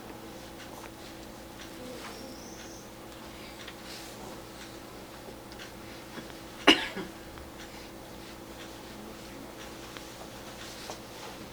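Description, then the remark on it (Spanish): A woman gives a single short cough partway through, breaking an otherwise quiet stretch with a faint steady hum in the background. “Brinda toses, por favor, si deseas, bella señora.”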